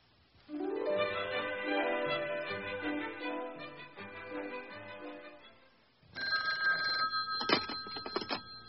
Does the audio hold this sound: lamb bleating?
no